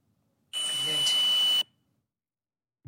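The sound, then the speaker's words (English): A single sustained electronic beep in a private house, a high steady tone lasting about a second over a hissy, noisy background, then silence except for a brief low thump at the very end. “It's probably some kind of paranormal equipment that's making a beeping sound, but there's also a voice.”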